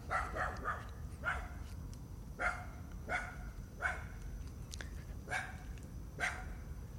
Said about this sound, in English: Oh, there's dogs out here, and they're yelling at me.